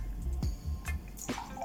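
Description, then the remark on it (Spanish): Orange juice being poured into a glass already holding serrano chili, lemon and mineral water while mixing a drink, heard as a few wet splashes and drips spaced about half a second apart over a low background hum, with no one talking. “Posteriormente, el jugo de naranja.”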